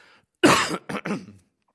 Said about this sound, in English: Excuse me, I've got a very tickly cough.